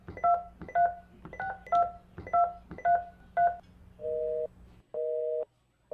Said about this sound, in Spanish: Está comunicando, vaya, estarán hablando con alguien, es que es normal. A estas horas.